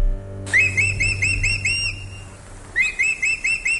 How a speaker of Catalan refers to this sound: No, no, no. És el falcó? És el falcó? És el falcó, és el falcó.